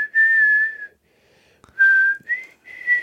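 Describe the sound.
A person whistles a melody from Peter and the Wolf in clear, sustained notes, a long held tone, a pause with a soft click, then several shorter phrases rising and falling in pitch.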